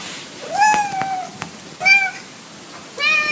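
cat meowing

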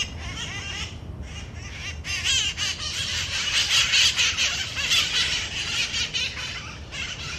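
wild parrots squawking

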